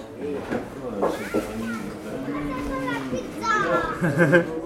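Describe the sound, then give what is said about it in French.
A lively crowd of schoolchildren pouring out of class at noon, many young voices overlapping in chatter and shouts, with high excited calls rising over a steady hubbub. “Ah ben il est midi, ça y est, c'est la sortie des classes, quoi.”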